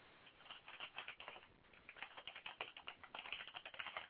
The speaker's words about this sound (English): I hear typing. Sorry.